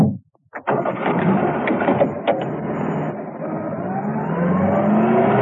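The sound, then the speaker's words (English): The Baron's car engine catches with a few sharp bursts, then settles into a loud, steady roar that climbs in pitch as the car revs and drives off, with no voices. “Peel returned to the Baron in his car.”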